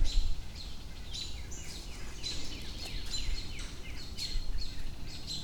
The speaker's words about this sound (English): I can still hear birds freaking out. I cannot figure out what they're freaking out about.